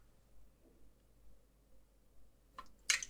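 A quiet sip of water from a small cup: after a near-silent stretch, two short wet slurping bursts come right at the end, with no talking.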